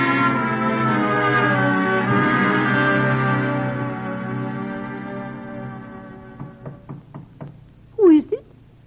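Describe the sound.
A sustained, droning musical tone fades out, followed by a quick series of about five sharp knocks on an unlocked door, then a brief voiced sound right after.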